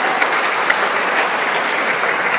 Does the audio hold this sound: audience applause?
yes